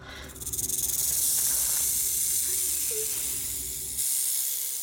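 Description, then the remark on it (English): A rattlesnake rattles and hisses in a culvert, a dry, steady buzzing rattle that starts abruptly and holds loud and continuous for several seconds with a hissing edge. “A Vesp hears the rattle, flies into the culvert, and grabs the snake in its maw.”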